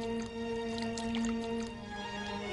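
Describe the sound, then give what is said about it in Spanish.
A little water is poured softly into a vessel, a faint, continuous trickle with small splashy gurgles over a steady background hum, and no one speaking. “echa un poco de agua.”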